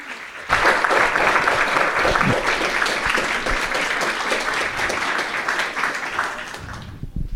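Sustained applause from an audience begins abruptly and holds steady and loud for several seconds as a dense wash of many hands clapping, then tapers slightly at the end.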